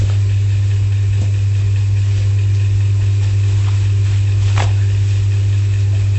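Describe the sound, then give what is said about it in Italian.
An electric meat slicer runs with a steady, continuous low motor drone, a faint whir layered above it and a couple of brief rising scrapes partway through; no one speaks. “Ah, piacevole rumore della fettatrice.”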